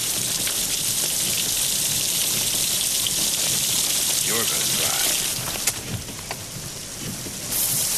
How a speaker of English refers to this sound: and he opens up the door where it's still pouring rain in the desert, and he just puts out the cigarette with the rain